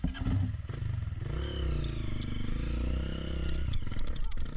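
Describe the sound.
A motorcycle stuck in a hole revs hard and unevenly as two people struggle to free it, its pitch rising and falling in strained surges, with scraping clatter and people's voices mixed in under the loud, steady drone.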